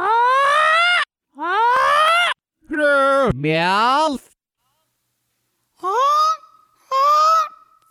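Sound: goose honking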